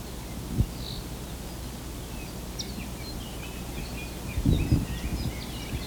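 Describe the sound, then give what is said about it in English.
Faint whistles of a laughing thrush (Garrulax) drift through a forest of ohia trees with a heavy tree-fern understory, scattered and irregular, over a steady breezy hiss with occasional low rustling gusts of wind through foliage. “The whistles in the background, I think, are the laughing thrush, Garrulax, something or other.”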